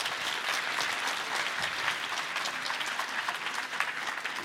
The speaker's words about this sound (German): Riesenapplaus bitte für Malte Rostkopf.